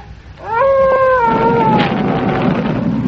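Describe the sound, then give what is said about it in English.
A wolf lets out a loud, drawn-out howl that slowly falls in pitch, fading into a steady rumbling, rushing background noise that continues to the end. “And the wolves are passing me and going for what's left of the astral beings, but some of them are getting into the rocket.”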